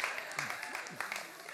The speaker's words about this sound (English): Why are guys clapping to that? Concerning.